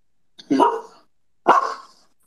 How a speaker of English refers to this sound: You like that? You like the little bark addition? Yeah, that was nice.